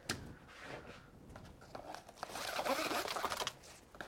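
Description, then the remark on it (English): A bag with a YKK zipper with molded teeth being handled, with soft crinkly rustling followed by a louder, raspy zipper pull in the second half, full of quick ticking clicks. “So our zippers are our YKK and they're molded teeth.”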